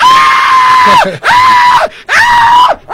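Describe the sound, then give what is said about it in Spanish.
A woman, a bank cashier facing a robber, screams in fright three times in quick succession, each cry long, loud and high-pitched, held steady before dropping off at the end, with no talking. “Y toda la gente, los gritos ayudaron mejor que la alarma.”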